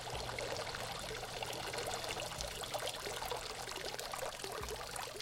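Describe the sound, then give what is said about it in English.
Water steadily pours and trickles, a continuous splashing burble with a bright, hissy texture that stays fairly even throughout, with no voices. “I'm going to turn that off because it sounds like a bathroom break, but just imagine that water burbling up louder and louder.”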